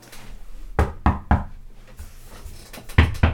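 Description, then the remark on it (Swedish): Sharp knuckle knocks on a hard surface, fairly loud: three evenly spaced raps, a short pause with a couple of softer taps, then two more firm knocks in quick succession. “Du börjar knacka underifrån.”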